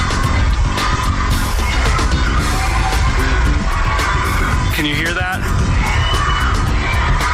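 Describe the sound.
Hundreds of parents and children detained by ICE shout 'let us out' in protest from behind the walls of a family detention center in Dilley, Texas, a dense, continuous roar with overlapping voices rising and falling; a voice briefly speaks over the din.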